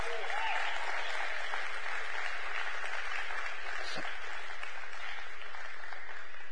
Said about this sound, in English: Well, with the same enthusiasm, I want you to clap for tithes and offerings, please.